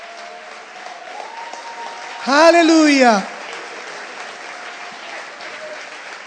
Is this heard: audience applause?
yes